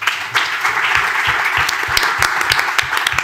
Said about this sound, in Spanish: Aplausos.